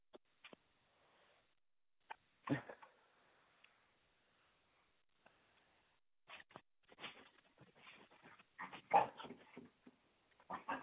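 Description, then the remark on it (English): Dogs making short yips and whimpers, a few isolated bursts early on, then a busier cluster of excited barks and whines toward the end, with quiet gaps between. “Like these dogs.”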